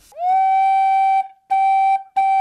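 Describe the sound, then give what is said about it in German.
A flue organ pipe, working like a recorder with a sharp wind jet directed at a labium (edge), sounds a pure, recorder-like tone three times at one pitch: a long held note, then two shorter ones, each starting with a breathy chiff. Steady and fairly loud. “Da ist also ein Labium, also eine Schneide, auf die ein scharfer Windstrahl gerichtet ist. Und das klingt dann eben wie eine Blockflöte, zum Beispiel so.”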